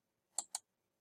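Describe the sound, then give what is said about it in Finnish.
Two quick, crisp mouse clicks close together, sharp, with nothing else around them, clicking Next while creating a team in software. “Klikataan Next.”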